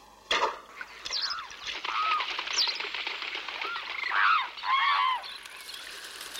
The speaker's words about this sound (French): Et le pharaon de déclencher un grand envol d'oiseaux qu'on pourrait classer et ordonner, parce que c'est le rôle du pharaon de mettre de l'ordre dans la nature.